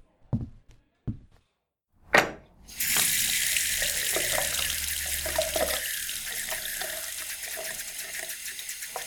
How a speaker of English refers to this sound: Go to the bathroom, splash some water on your face.